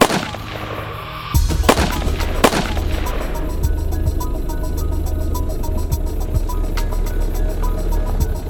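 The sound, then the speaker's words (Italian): Three sharp, loud gunshots crack in quick, uneven succession after a quiet start, as a killer fires again at two young people in a car on a provincial road in Baccaiano, Montespertoli, in 1982; a steady low rumble follows to the end without any voices. “L'assassino spara ancora, colpisce di nuovo i due ragazzi e scappa.”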